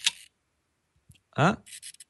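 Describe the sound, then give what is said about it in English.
The fully mechanical shutter of an old camera, set to a 1-second shutter speed, snaps open with a sharp click, then closes about a second later, followed by a brief voice-like sound and a few short rasping clicks. “The shutter is a fully mechanical thing in these old cameras.”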